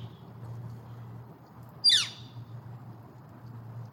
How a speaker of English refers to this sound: What is that? That sound? Yeah. That's a bird. Is that what you wanted to know? That's really helpful. What kind of bird? That's what I was wondering. I don't know what kind of bird that is